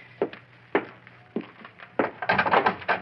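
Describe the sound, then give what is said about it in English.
Several heavy thuds land on a door at uneven intervals, then a louder burst of crashing and splintering as it gives way. No voices are heard. “I gotta bust down this lousy door.”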